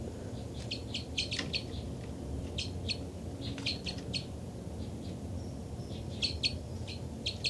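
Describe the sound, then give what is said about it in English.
Two birds, identified as 273 and 274, chitter and call back and forth, one responding to the other, in quick bursts of high, bright notes clustered in short rapid series over a steady low rumble of background noise. “Chitter by the birds.”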